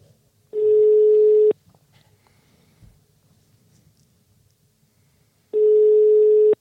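Two long, steady electronic ringback tones, each about a second long, separated by a few seconds of quiet line noise, from an outgoing phone call to the flower shop Butik Liljen in Sydals on Als, waiting to be answered.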